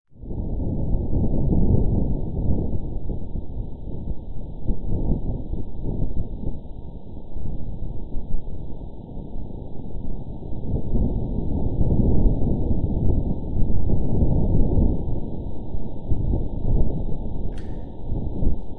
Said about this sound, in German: Ich denke, man hört auch wieder Wind. Du hörst Wind? Und witzigerweise finde ich, ist das eigentlich noch so die atmosphärischste oder bedrohlichste Aufnahme, weil irgendwie der Wind da so ein bisschen, der ist halt nicht ganz so wummerig,